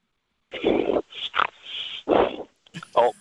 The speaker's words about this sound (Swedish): Får vi be att du fräser ut allt brosk och snor innan vi börjar så att det blir bättre radio.